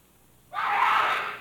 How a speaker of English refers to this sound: I head for the scream.